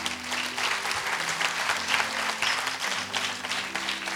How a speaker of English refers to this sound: Clap for Jesus.